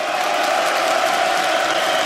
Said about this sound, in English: Let the buffoon hear it. Give it up. Clap for him. He needs to hear these cheers. Give it to him. Yeah. Give it to him. Show him.